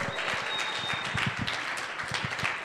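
An audience breaks into steady applause for a son's birthday, many hands clapping in a dense, continuous patter at an even, moderate loudness for a few seconds, with no one speaking.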